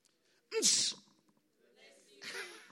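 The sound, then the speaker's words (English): A person fakes a sneeze, one sharp, loud, breathy burst, followed a moment later by a softer, hissy second burst of breath. “I did it so that you can say that. You know, and then it's almost a greeting. How are you? God bless you.”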